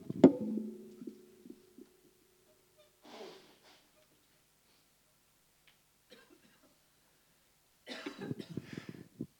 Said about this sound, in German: Okay, jetzt muss ich nochmal meine Nase putzen.